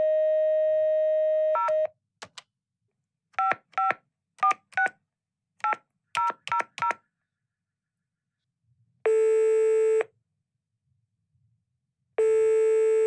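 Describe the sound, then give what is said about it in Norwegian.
A steady dial tone cuts off, followed by a quick series of touch-tone keypad beeps as a phone number is dialed in a call to Santa Claus, then two long ringing tones separated by a pause, all loud with no voices. “Så ringer du seriøst forkert. Ring nu rigtigt op.”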